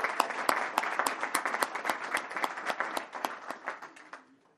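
An audience applauds the organization's outgoing secretary for several seconds, a dense patter of many hands clapping with sharp individual claps standing out, holding steady before fading away at the end.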